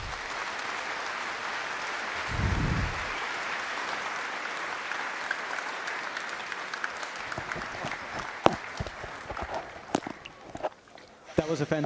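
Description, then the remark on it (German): Sustained applause from a large audience in a hall after a talk, a dense steady clatter of clapping that thins toward the end, with a few louder individual claps and a low rumble near the start. “Ja, danke für diesen Applaus.”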